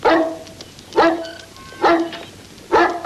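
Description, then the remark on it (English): A dog barks four times at a steady pace, each bark sharp and loud, with brief quiet gaps between them and no voices. “dog is barking.”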